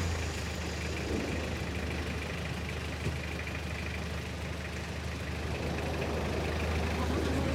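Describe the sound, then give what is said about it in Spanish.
A bus engine idles steadily on a road where landslides have struck, its deep, even rumble running without a break from start to finish, with faint, indistinct voices in the background. “¡Ese autobús! ¡Pídale al chofer que lo estacione a un lado de la carretera!”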